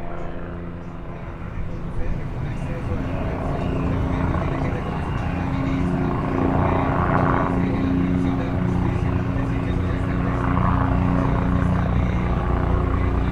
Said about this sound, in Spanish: Me asomo a la ventana y se escuchan los helicópteros.